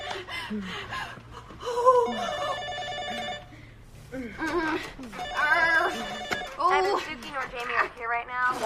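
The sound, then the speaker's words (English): A telephone rings in two long bursts, clear, while breathy voices gasp and talk over and between the rings. “She answers the phone.”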